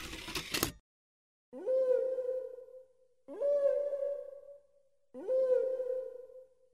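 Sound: whale song recording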